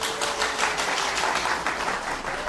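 An audience breaks into steady applause, a dense wash of many hands clapping at an even, moderate loudness for the whole moment, with no voices over it.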